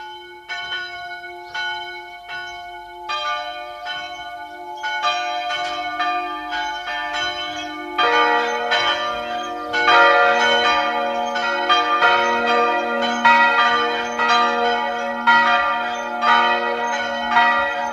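The bells of the parish church of Mariasdorf in Burgenland, built around 1400 near the Bernstein mining area, ring at 12 noon in a steady, overlapping peal, a single bell at first joined by more until several toll together, loud and resonant with no voices.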